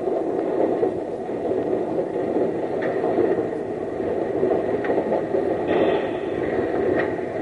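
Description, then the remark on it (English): A locomotive rumbles steadily and loudly along the rails while a few faint metallic clanks sound at irregular intervals as the engine couples onto the first car of a train. No voices. “If I hit that first car too hard, I'm liable to wreck us all.”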